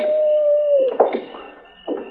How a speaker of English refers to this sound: I wonder if Coyote's is as lonesome as they sound.